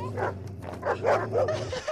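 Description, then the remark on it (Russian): A dog barks in a quick series of fairly loud woofs mixed with high, whiny whimpers, over a steady low background hum. “Хорошая собачка!”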